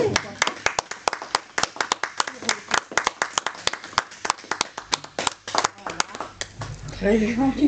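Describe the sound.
A small audience claps steadily for several seconds, crisp overlapping handclaps, before a voice starts speaking as the applause fades.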